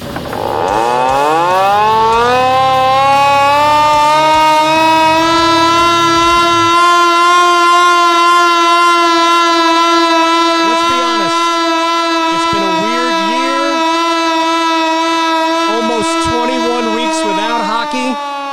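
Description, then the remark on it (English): A hand-cranked siren, wound by Duke basketball coach Mike Krzyzewski at a Canes hockey game in the arena, winds up, its pitch climbing over a few seconds before holding a loud, steady wail, with crowd noise faintly underneath. “That's Mike Krzyzewski, Duke's basketball coach, who wound the siren.”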